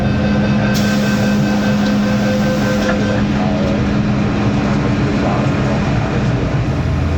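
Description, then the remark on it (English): A Hong Kong MTR metro train runs with a loud, steady rumble and a constant low electric hum, with faint whining tones above it and no clear voices. “The Hong Kong train stations, otherwise known here as MTRs, are of all different shapes and sizes, with many entrances and exits that can leave even the most local residents confused.”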